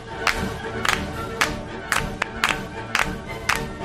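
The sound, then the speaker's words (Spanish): An audience claps in unison to the Radetzky March at the New Year's concert in Vienna, about two sharp claps per second keeping time, over a low crowd murmur. “¿Tú te sabes lo de las palmas?”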